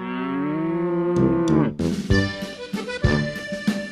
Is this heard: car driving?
no